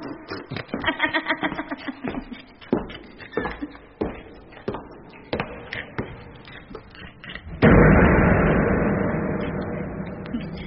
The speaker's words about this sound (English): And that door, closing with a grim finality, also closes this story from the cabaret of... Dr. Caligari!